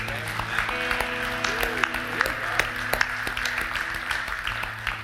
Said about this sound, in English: We are really grateful for those who shared today, but we're not going to applaud them because that's not what they want and that's not what we want. We want to applaud God. So let's just thank God.